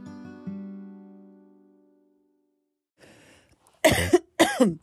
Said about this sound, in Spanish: ¡Oh, qué forma tan glamurosa de empezar el podcast con tos! Pero bueno, amiguitos lindos, es lo que hay. Les cuento que estoy con moco porque estoy alérgica.